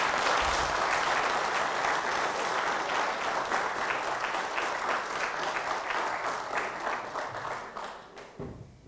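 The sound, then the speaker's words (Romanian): A crowd of men in a church applauding the mothers, steady and loud, dense clapping that holds for several seconds before tapering off and stopping abruptly. “de data aceasta aș vrea doar bărbații să aplaude pe aceste eroine mame. Din toată inima aplaudați, bărbați, mai mult decât la fotbal!”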